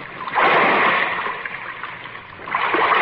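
A heavy splash as a person drops down into dark, waist-deep water, followed by churning, sloshing water that swells again near the end. Loud, with no voices.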